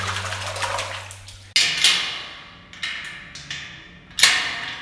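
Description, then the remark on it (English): Water sloshes and splashes in a bowl in a prison cell, in several uneven surges that each fade quickly, fairly loud, with a low hum beneath at the start and no talking. “Here's the bowl of water. Can't show you the bread, but here's the water.”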